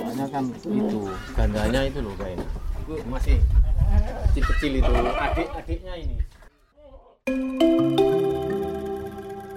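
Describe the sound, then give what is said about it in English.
Several goats bleat in quavering, overlapping cries for about six seconds. After a brief silence, a steady sustained musical tone takes over. “But now, he has a goat to take care of.”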